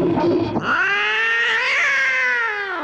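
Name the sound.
cat caterwauling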